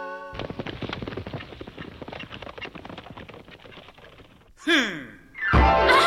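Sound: horse hooves clip-clopping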